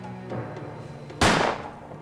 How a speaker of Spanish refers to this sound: Midió el sonido del disparo de una Ruger Black Hawk.